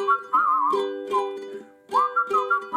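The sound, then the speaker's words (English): A person whistles a warbling, chirpy tune in short bursts, mimicking little birds, over steady sustained musical tones in the background. No talking. “The two little birds were whistling about something and nothing and anything.”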